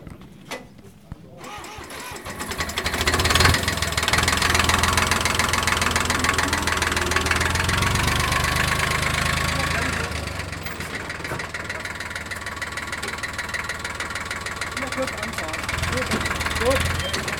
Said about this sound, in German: Zuletzt folgt der Bremstest für die Traktoren mit Anhängern.